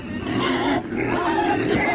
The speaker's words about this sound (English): But when someone is huffing and puffing next to me on a plane, yeah. and I've got this for 2 hours of my life, yeah.